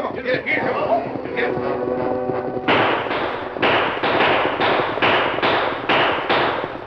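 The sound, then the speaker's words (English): Outlaws riding out of the brush at a wagon: a rough, shouting voice gives way to a loud volley of about seven or eight gunshots fired over the travellers' heads, sharp cracking bursts in an uneven rapid sequence, each leaving a brief rumbling tail, as the wagon horses are dragged to a stop. “the outlaws rode out of the brush, shooting over their heads and dragging the wagon horses to a stop.”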